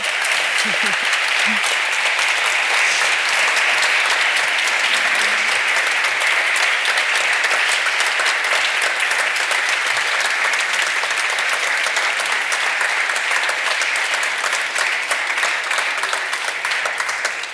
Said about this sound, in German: Dann erstmal vielen Dank an meine tollen Gästinnen Cora E und OG Lu. Bitte einmal einen Applaus.